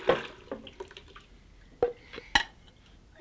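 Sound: water sloshing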